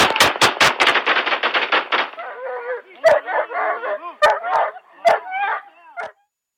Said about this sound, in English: the dog you heard barking was a police canine, and he was not harmed at all during this. He was just obviously excited when he saw the suspect running at him